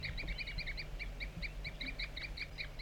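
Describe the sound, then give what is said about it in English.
A wild bird and a bird tagged 4-3 give rapid, repeated short high-pitched toop calls to each other, a steady back-and-forth chatter of many notes running throughout, over a low rumbling hum. “Definitely a wild bird and 4-3 tooping to each other.”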